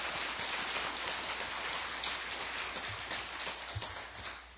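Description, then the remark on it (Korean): An audience claps steadily for several seconds in thanks for a university president's message, a dense, even patter of many hands with no voices over it, holding at a fairly loud level before easing slightly at the end. “우리 감사하는 마음으로 다시 한번 박수 부탁드립니다.”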